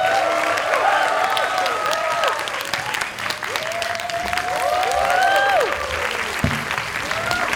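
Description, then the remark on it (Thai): A stand-up comedy audience claps loudly and steadily while people whoop and cheer for a comedian, their rising shouts cutting through the dense applause for several seconds. “ขอเสียงปรบมือกรีดร้องโห่ร้องดังๆให้กับคนนี้ครับ”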